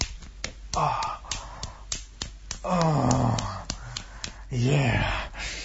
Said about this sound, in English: Now open wide, because I want to slap my cock on your tongue.